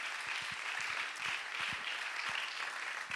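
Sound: audience clapping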